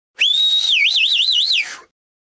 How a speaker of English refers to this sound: We whistle to show our appreciation, at a concert, for example.